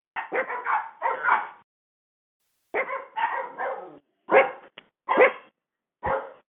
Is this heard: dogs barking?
yes